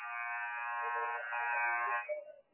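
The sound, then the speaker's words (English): A basketball game clock buzzer blares in one loud, steady, harsh electronic tone for about two seconds as the game clock runs down, then cuts off, leaving faint crowd noise behind. “So the clock rolling down. There's the buzzer.”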